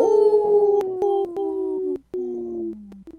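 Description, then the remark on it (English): A person imitates a wolf howl, a loud, wavering tone broken into a few sliding segments that dip lower in pitch across about three seconds. “Good howl.”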